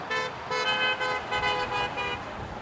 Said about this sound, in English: It's a customer appreciation party, but it's also a goodbye to summer and thanking our friends from the South that come up and support us, waving to them, saying thank you, come back next year, honk if you had fun.